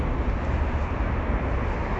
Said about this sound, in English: Noticed how noisy the traffic is. I'm much more aware of it when I'm trying to talk to you.